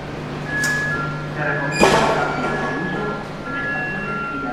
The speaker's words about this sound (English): I'm in the railway station in Colmenar de Viejo, a town north of Madrid from which a lot of people travel into the capital each day to work.